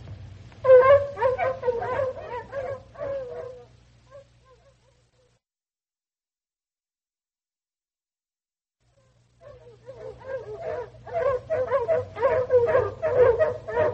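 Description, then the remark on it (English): A pack of four tracking hounds held in a harness bays and howls together in dense, overlapping cries while trailing a scent, falls silent for several seconds, then erupts again just as loudly. “You let that slim boy hold 4 hounds in his harness?”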